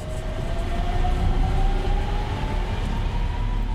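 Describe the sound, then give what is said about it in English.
An electric truck at a port starts up, running with a steady low rumble, quieter than a standard diesel truck, a faint whining tone slowly climbing in pitch over it as the motor picks up. No one speaks. “Let's start it up here. It's a lot quieter than your standard diesel truck, huh?”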